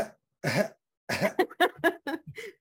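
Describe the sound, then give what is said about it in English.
A loud, harsh cough, a short pause, then a rapid run of several shorter coughs trailing into throat clearing, with no talking. “Yep, the cough button. I'm a little slow on the draw.”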